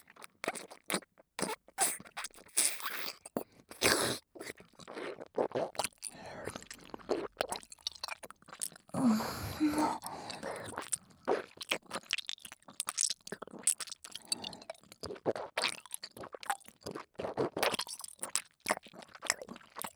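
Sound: chewing and crunching food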